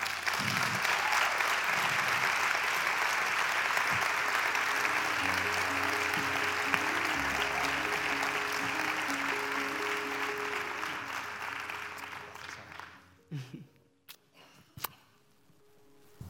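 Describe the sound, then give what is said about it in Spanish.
Loud, sustained applause from a large crowd welcoming onto the stage a beneficiary of the Corazón y Manos aid programme, a dense wash of clapping that holds steady for about twelve seconds, then thins out and fades to a few scattered claps. “Así que, por favor, me gustaría que con un fortísimo aplauso recibiéramos”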